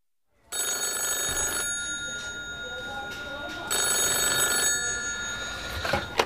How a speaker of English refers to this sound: The central telephone office has advised us that there's a phone call coming from the United States. Can you take it?